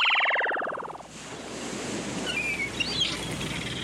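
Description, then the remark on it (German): Steady wash of sea waves with ships on a sunny day, opening with a bright, tonal horn-like blare that fades after a second, followed by a few faint high bird cries over the surf. “Sonne, Meer, Schiffe.”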